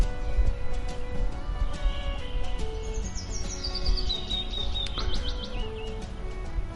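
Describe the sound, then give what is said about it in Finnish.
Birds sing outdoors, heard from a terrace in Kangasala, Finland, with scattered high chirps and a bright descending whistled run midway, set against a steady low rumble of open-air background noise; no one speaks. “me ollaan tässä Kangasalla teidän rantavirkkulan tässä terassilla istuttu ja juotu kahvia ja kuunneltu linnunlaulua ja elämäntarinaa ja silleen.”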